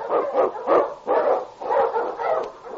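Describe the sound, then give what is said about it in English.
A husky sled dog, Wonder Dog King from Sergeant Preston of the Yukon, barks in a quick series of about five or six loud yelping barks, one after another with no voices. “On King! On your husky!”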